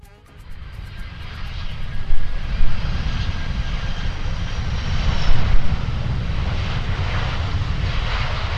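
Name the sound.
airplane engine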